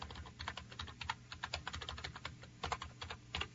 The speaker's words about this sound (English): I'm typing in my own email. There we go.